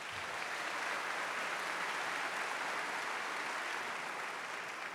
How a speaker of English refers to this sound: Is that approval applause or sympathy applause?